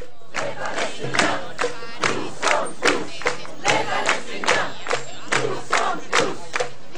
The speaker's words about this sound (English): What you're listening to is a crowd of members of the Gaza Freedom March in Cairo. What they're chanting is, "We are all Palestinians."